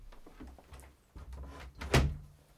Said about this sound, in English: Close the door.